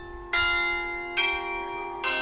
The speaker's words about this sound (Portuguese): O toque do sino da Igreja do Rosário em São Vicente escuta-se na centenária mercearia.